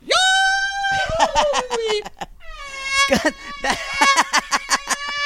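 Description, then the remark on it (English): A person vocally imitates a cartoonish Goofy-style holler, a long warbling yell that breaks into a quavering, pulsing scream (a Yahoo into a fan or chandelier scream), then repeats the holler and scream again, loud with no other talk. “That was a Goofy into a Yahoo, into a fan scream, or a chandelier scream.”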